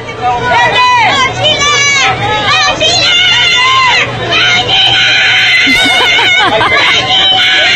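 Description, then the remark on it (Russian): A large crowd of fans yells a greeting cry together in loud, overlapping shouts, a dense wall of voices rising and falling in repeated cries throughout, continuous with no pauses. “Что, он кричит «Вагина», на самом деле.”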